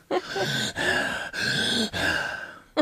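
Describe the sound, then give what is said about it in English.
Heavy breathing right up against a microphone, four loud, rasping breaths in a steady rhythm with short pauses between them, and no one speaking. “I also didn't realize I was such a heavy breather until hearing this episode.”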